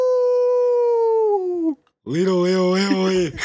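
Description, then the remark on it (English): Two long, drawn-out human howls imitating wolves, each held steady then trailing off: first a thinner, sliding howl, then after a short pause a fuller, louder one with several voices joining in. “Crew, howl with me so we might set the seas ablaze with fear.”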